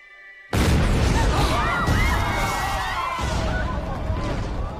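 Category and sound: sound effect, fireworks exploding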